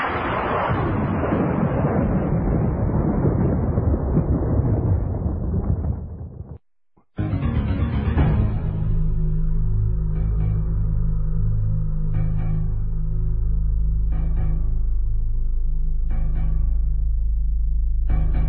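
Loud thunder rolls in a broad crash for several seconds, breaks off briefly, then returns as a deep, sustained rumble with repeated fainter cracks over it.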